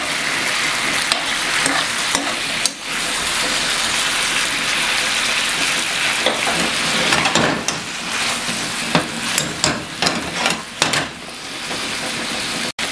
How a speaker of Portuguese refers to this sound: Vou deixar ele ficar meio fritinho mesmo, ficar com aquela... Aquele queimadinho típico do frango, mas sem ficar duro o frango, tá?